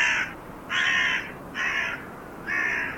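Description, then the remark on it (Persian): A lame crow standing on an old man's grave at night caws four times in a steady rhythm, each harsh call about half a second long and fairly loud, with short gaps between them and no other voices. “چند لحظه به این کار ادامه داد و سرانجام ایستاد و نوکش را تا جایی که می توانست باز و شروع به قارقار کرد.”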